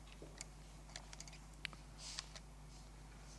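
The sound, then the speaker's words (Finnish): Quiet, irregular computer mouse clicks, around eight or nine short sharp taps scattered over a few seconds, with a steady low electrical hum underneath and no one speaking. “Että nyt jos mä klikkaan tuossa, niin joku on niistä lähimpiste, ja se seuraava tehtävä oli löytää tuo lähimpiste sieltä.”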